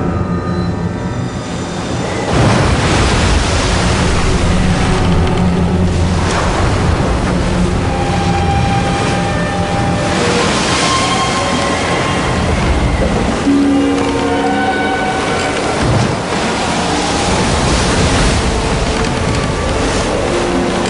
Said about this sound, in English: By then a strong wind was blowing and stirring up the water.